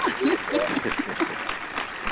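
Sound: people clapping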